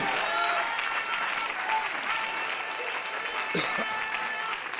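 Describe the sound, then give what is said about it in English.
A crowd claps steadily and loudly in praise of God, a dense wash of overlapping handclaps with some voices mixed in throughout. “Clap your hands.”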